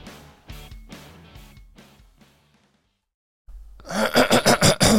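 A short musical phrase fades into silence, then a loud throat clearing erupts: a raspy, rapidly pulsing rumble lasting about a second.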